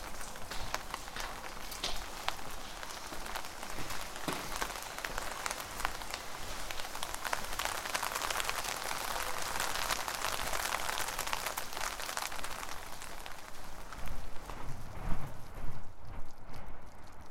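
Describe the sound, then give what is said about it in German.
Steady rain patters on a hard surface, a dense, hissing wash of drops that holds constant throughout, with a few heavier splashes and a slightly louder patch near the end. No voices. “Muss rausgehen in den Regen.”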